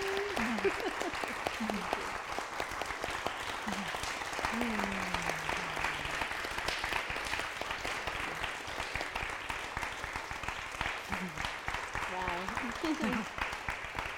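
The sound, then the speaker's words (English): An audience gives a sustained round of applause for a healthcare professional and in thanks to all healthcare professionals, dense steady clapping throughout, with a few voices calling out and cheering over it. “Yes, and let's let her stand and stand for her and give her a huge round of applause for her and thank for all healthcare professionals.”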